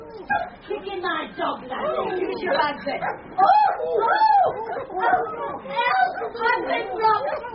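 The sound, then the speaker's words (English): A dog barks and yelps repeatedly in sharp, agitated bursts as a lad kicks it on a platform, mixed with a busy jumble of overlapping voices throughout. “Kicking my dog, lad.”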